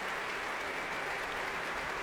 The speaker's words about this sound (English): 20 seconds of indecision, a sort of spiritual shadow that was broken by the first beginnings of the round of applause.